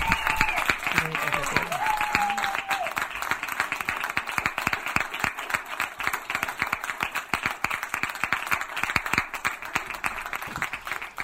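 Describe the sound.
An audience applauds steadily for the whole stretch, a dense crackle of many hands clapping, with a few brief voices and cheers rising over it at the start.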